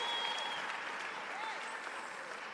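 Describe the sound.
An audience claps steadily, a dense wash of many hands that stays even and sustained throughout, with faint scattered voices and whoops mixed into the applause.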